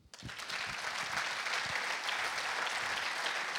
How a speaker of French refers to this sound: On va vous applaudir parce que vous êtes le vrai acteur. Merci.